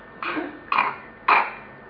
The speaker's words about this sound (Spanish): ¡Uy! Tos mal.